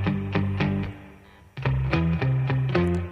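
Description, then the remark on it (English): A heavily effected bass guitar plays a bouncy line of short, plucked notes with a wet, octave-doubled tone that sounds almost like plucked strings; a brief pause falls midway before the riff resumes. “It also sounds like strings, like plucked strings.”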